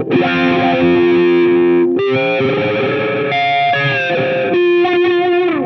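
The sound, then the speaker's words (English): A loud, heavily distorted electric guitar sustains thick notes and chords with a trailing delay, its tone sweeping and shifting like a wah pedal; no talking, just the guitar played alone. “So just delay and lots of distortion and wah.”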